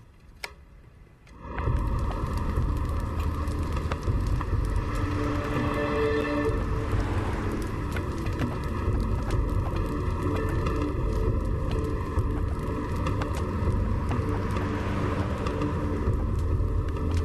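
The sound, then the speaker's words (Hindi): After a brief quiet moment, a car engine kicks in and rumbles steadily, a low, constant drone with faint ticking over it, as the car pulls up and stops. No one speaks. “आपने गाड़ी यहाँ क्यों रोकी है?”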